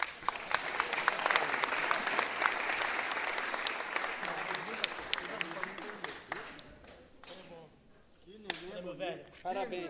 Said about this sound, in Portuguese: muita saúde aí, mãe. Um aplauso pra mamãe.